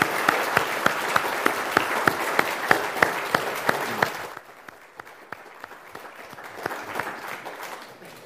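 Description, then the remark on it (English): A crowd applauds the teachers, leaders and helpers loudly, with a steady clapping beat running through the noise, then the applause abruptly thins halfway through to quieter, scattered claps. “Should we give all your teachers, leaders and helpers a big round of applause as well?”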